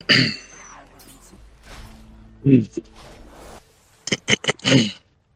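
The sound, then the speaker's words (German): Someone clears their throat several times in short, rough bursts, a few spread out and then a quick cluster of three or four near the end, close to the microphone with quieter breathy sounds between. “Wie kann man innerhalb von 30 Sekunden sich so oft räuspern müssen?”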